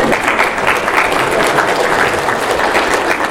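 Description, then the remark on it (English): A worship service audience claps steadily for a few seconds for its accountants after tax week, a dense, even wash of many hands with no pauses, holding fairly constant in loudness throughout and no voices standing out. “Let's give them a hand for...”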